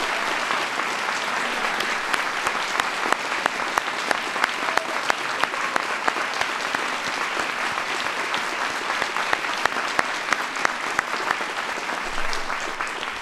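Sustained audience applause, a dense wash of many hands clapping steadily and loudly for over ten seconds, with sharp individual claps popping out and no voices heard.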